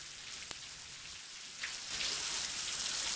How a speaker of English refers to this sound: She pulls the shower curtain across, then turns the lever, and immediately dark blue water starts coming out of the shower.